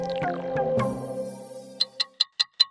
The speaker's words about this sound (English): Do you hear that? That's the clock counting down to the Brisbane 2032 Olympic and Paralympic Games, which, if you can believe it, are only 10 years away.